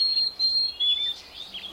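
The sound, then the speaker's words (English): A chickadee from an island population with its own unique song sings clear, high whistled notes in a few short phrases, pure and steady in pitch, heard alone with a faint hiss of background behind it. “In the short term, though, island populations can come up with new behaviors, like these chickadees and their unique songs.”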